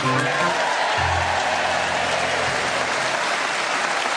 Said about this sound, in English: It's always a bit difficult when you start clapping without realising how long it's going to go on for, isn't it? Yeah, because you're stuck with it by then.